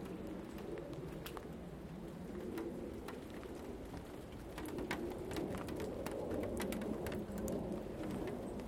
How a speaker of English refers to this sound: I think it's actually dripping off the trees, that's where it is. Onto the waste buckets.